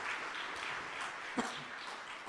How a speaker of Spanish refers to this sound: Denle un fuerte aplauso al Señor, mis amables hermanos.